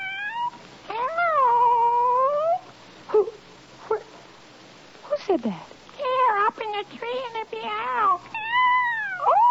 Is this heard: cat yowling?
yes